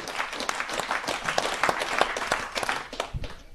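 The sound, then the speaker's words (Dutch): A burst of audience applause, many hands clapping in a dense, steady patter at moderate loudness, with no voices over it, thinning slightly toward the end. “Vind ik wel applaus waard.”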